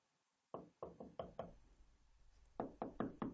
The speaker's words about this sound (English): Knock, knock, knock.